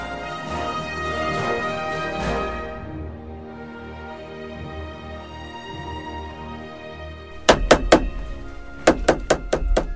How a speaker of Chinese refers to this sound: 你在干什么呀？敲敲打打的。 你没看到吗？椅子的脚松了，我定牢它，免得坐不稳，四脚朝天。